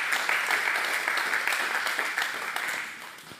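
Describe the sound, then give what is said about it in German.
Steady audience applause: many hands clapping in a dense, crackling wash that holds at an even level for a few seconds, then begins to thin slightly toward the end. “Also ich glaube, da haben Sie sich noch ganzen herzlichen Applaus nochmal verdient.”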